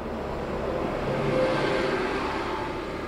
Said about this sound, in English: And that was a bus passing us, in case it wasn't obvious.